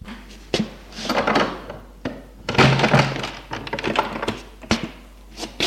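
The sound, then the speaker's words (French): A front door is opened and shut: a few sharp wooden thunks and latch clicks separated by shuffling, rustling movement, with no one speaking. “Il le fait entrer et ferme la porte.”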